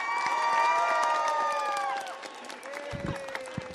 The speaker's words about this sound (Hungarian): Fél órás várakozások után érkezett meg a pápa hozzájuk, és rögtön bocsánatot kért a késésért, amire lelkes tapsal válaszoltak.